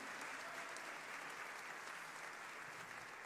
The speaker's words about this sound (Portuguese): Se for para Jesus, aplaude e glorifica o nome dele. Aleluia.